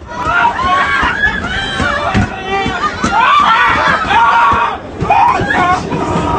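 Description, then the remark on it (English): Passengers on a New York subway train scream and shriek, jumping on their seats as a big rat scurries around the carriage, loud overlapping yells rising and falling in panic, with only a brief lull before the cries surge again. “While commuters often feel like their journey is a rat race, these passengers got an entirely different experience, jumping on their seats and screaming as the rat scurried around the carriage.”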